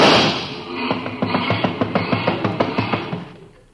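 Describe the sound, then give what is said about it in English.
A mechanic in a garage across the street races a car engine, a steady, rapid chugging pulse over a broad hiss, rising out of noise and then trailing off at the end. No one speaks. “No matter what car comes in, he always races the motor.”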